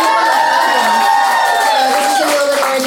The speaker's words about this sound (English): There's two screams in the audience. We have a live audience for people listening on the podcast.